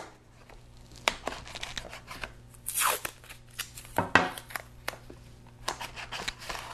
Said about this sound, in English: So, as you see, I'm just taping the little paper down to the inside of the Tupperware container. Make sure it's going to be down there nice and secure.